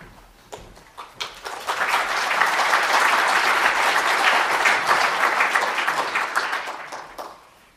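An audience at a presentation breaks into applause, starting with a few scattered claps that quickly swell into steady, dense clapping before tapering off near the end.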